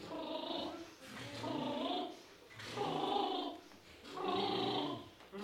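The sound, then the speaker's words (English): A voice performs the burr or buzz sniff vocal exercise with added pitch: four sustained, rumbly pitched phrases with short breaks between them, where quick sniffed breaths are taken. “This is what I call the burr or buzz sniff exercise.”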